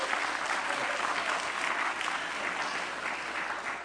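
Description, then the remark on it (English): A church audience claps steadily throughout at the preacher's request during a sermon, a dense, sustained wash of many hands at an even loudness with no voices standing out. “Everybody just applaud right now.”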